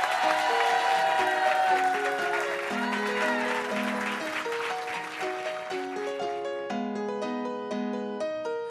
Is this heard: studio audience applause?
yes